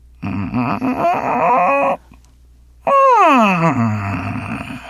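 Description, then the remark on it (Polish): A voice improvises a strange sound, taken to be a talking vacuum cleaner: a strained, buzzing drone with wavering pitch, a short pause, then a long groaning tone sweeping sharply downward and trailing off low. “To co to by było? Gadający odkurzacz.”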